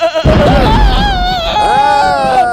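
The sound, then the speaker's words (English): Goats bleating loudly: two long, wavering bleats, one right after the other, over a rough, noisy background. “Okay, once upon a time, it was raining in a dark cave, and there was a trailer full of goats.”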